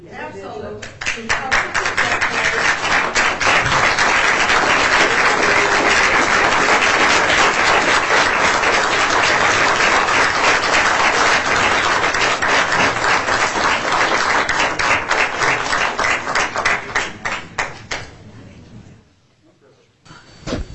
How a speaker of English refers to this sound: I already said that we stand and applaud these.